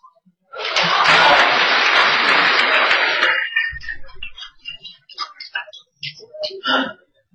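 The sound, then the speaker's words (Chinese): An audience bursts into steady, dense applause for about three seconds, then it cuts off and a man starts talking in short bursts. “这个咱这个您老几位，您快别鼓掌了，”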